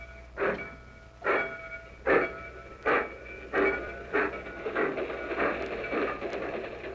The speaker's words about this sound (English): Attention, please. Train leaving for Yuma, Phoenix, El Paso, and Houston. All aboard.